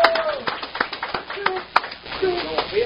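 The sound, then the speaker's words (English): A crowd claps steadily for the Pandora Jewelers Inside Florida Racing Driver of the Year in a dense, crackling patter of many hands, with a few sharper slaps standing out and voices calling over the applause throughout. “Big round of applause for the Pandora Jewelers Inside Florida Racing Driver of the Year”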